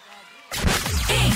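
After a brief hush, audience applause bursts in abruptly, a dense, loud wash of many hands clapping that holds steady until the end.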